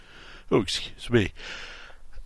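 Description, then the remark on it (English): Two quick sneezes into a microphone, loud, each a voiced burst that breaks into a sharp hissing spray of breath, with a moment of quiet between them. “Didn't mean to sneeze in the microphone.”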